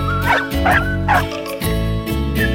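Three quick, high dog yaps, evenly spaced, from the dog Barabaka of a children's poem, ring out over a sustained musical backing, then the music carries on alone for the rest of the moment.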